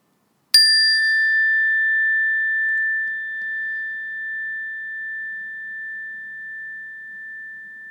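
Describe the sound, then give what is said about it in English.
A single meditation bell is struck once and rings out clearly, its pure tone sustaining and slowly fading over several seconds in otherwise quiet surroundings. “When you hear the sound of the bell, just bring your awareness to your respiration and your breathing, and then wait for further instructions.”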